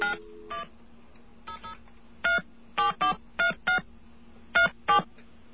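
A series of touch-tone telephone dialing beeps, about a dozen short even tones in quick irregular bursts, dialed to check whether someone has MCI phone service, heard clear over a faint steady line hum with no voices.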